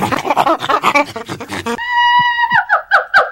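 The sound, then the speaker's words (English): Gidget, a pet monkey, screeches, loud rapid chattering cries giving way to a long, steady high-pitched shriek and then a few short squeals. “That's just our monkey Gidget.”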